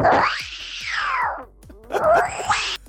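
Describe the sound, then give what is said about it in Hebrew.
A person imitates two female cats fighting under a window over a piece of bread by a bin, producing a long, loud rising-and-falling yowl, a brief gap, then a second wavering, shorter screech. “זה שתי חתולות שרבות כאלה ביניהם, והם תחת לחלון.”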